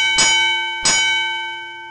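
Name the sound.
gong strike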